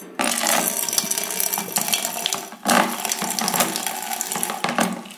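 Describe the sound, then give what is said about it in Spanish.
Cider is poured steadily from a height into a glass, a continuous bright splashing and gurgling stream striking the glass, with a brief pause midway before the pour resumes. No one speaks. “Te suena pegando en el cristal.”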